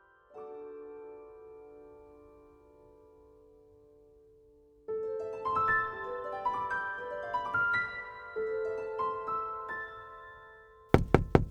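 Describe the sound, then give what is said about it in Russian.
Soft sustained music gives way to a gentle melody, then near the end a young aristocratic woman gently knocks three or four quick times on a pickup truck window, crisp. “«Извините», — молодая аристократка аккуратно постучалась в окно пикапа.”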